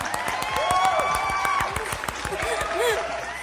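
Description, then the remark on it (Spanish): A crowd claps steadily for a few seconds to welcome a guest, sharp overlapping slaps forming a busy patter, with voices calling out and whooping over the applause. “¿puedo pedir unos aplausos?”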